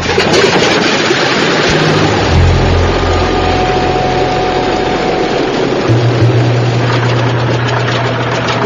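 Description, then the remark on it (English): A loud, steady airplane engine runs on the ground during a test run in Cambridge Bay to check whether it loses oil, a continuous deep roar with low humming tones that shift slightly in pitch partway through, with no voices. “Solving the mystery will require a test run of the engine.”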